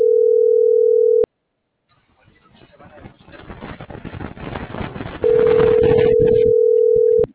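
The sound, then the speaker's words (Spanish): A steady telephone dial tone, heard while a phone number is being dialed, sounds loudly for about a second, cuts off, then returns after a stretch of muffled background rumble and talk, holding until the end. “Ah, es esa la que le estoy marcando.”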